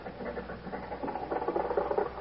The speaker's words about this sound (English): Oh, boy, listen to that motor purr. I should have had my head examined for wanting to trade in little Maxie.